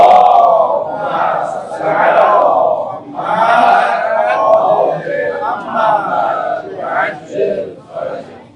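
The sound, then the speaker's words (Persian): A large crowd at a religious gathering recites a salawat blessing together in loud unison, offered as a gift to Imam Sajjad, many voices chanting in a rhythmic, swelling cadence in several bursts over about eight seconds. “هدیه پیشگاه امام سجاد علیه السلام یک صلوات خوب خط بفرمایید.”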